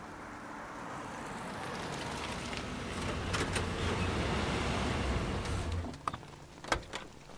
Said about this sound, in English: Stand fast! Incoming truck!